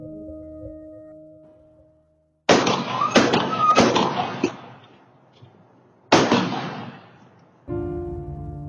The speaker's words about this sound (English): the following is actual audio caught by neighborhood surveillance cameras of the gunshots that killed Liz Barraza